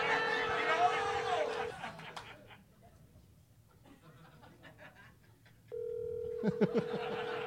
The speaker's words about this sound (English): Oh, my phone is ringing.